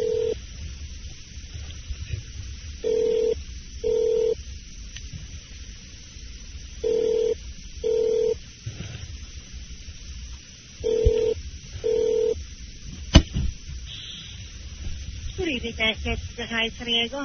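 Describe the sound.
A phone call placed from a cell phone rings through the earpiece: three double-pulse ringback tones, evenly spaced, over a low hiss, before someone picks up and a voice starts talking at the end.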